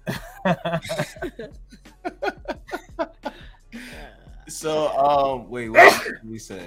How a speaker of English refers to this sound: Bless you.